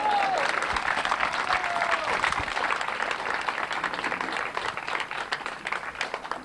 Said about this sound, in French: La preuve en est encore avec ce superbe projet, le Café Citoyen. Qu'on applaudit bien fort, s'il vous plaît.